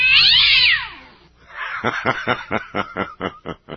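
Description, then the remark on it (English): A cat lets out a loud, shrill, wavering yowl of pain, falls briefly quiet, then gives a rapid run of about ten harsh, pulsing cries. No one speaks. “I really suspect a tail being crunched or something.”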